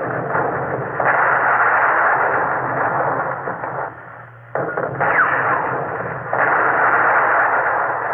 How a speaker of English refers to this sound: Under the mass fire of the Japanese guns, the Alexander was smashed and battered. She became a roaring inferno of flame. The Alexander has fallen out of line. Helpless, she turned away from the furious Japanese cannonading.